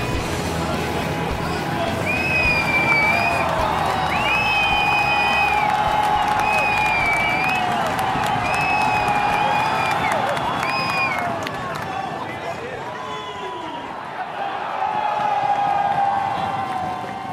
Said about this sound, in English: Well, …, what was that very enthusiastic crowd noise? And tell me, where are you? I am right now in the centre of Bruges, …, at the in the fan zone at the World Championships.